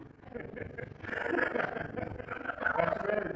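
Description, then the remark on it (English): A voice imitates a yelping animal, a strained, wavering cry that rises in loudness after the first second and holds for a few seconds with a nasal, whiny pitch. “That kind of sounds like somebody ran over the dog's tail or cat's tail.”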